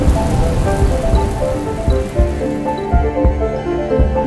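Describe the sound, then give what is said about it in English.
A loud, heavy downpour roars steadily, a dense wash of rain with individual heavy drops spattering against a surface. No one speaks. “Thundering rain.”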